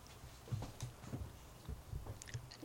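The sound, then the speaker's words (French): A child chews something he has put in his mouth, with soft, wet, irregular mouth sounds repeating every fraction of a second, quiet, with no talking. “il a mis dans la bouche, il mâche.”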